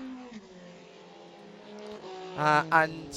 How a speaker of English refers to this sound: And the high revving engine in the background is the flat six from the Porsche.